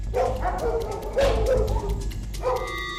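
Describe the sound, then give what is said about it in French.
A six-year-old female dog from an animal shelter barks in three loud bursts of yelping, bow-wow barks separated by short pauses, with no one speaking over it. “Femelle, 6 ans. Elle vient de la SPA. Bon, très bonne chienne.”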